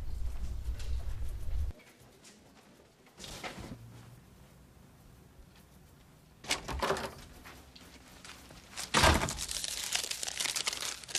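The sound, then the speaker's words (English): Crumpled paper rustles and crinkles in a few scratchy bursts as it is taken out of a pocket, ending with a sharper crackle as it is set down on a desk. There is no talking, just a low hum at the start. “He takes a crumpled piece of paper out of his pocket and puts it on the desk.”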